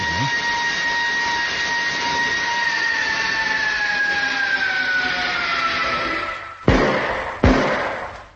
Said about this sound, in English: There it goes again. On the other side this time. It's as though somebody were walking round the ship and tapping it to see what it was made of. Or trying to find a way in.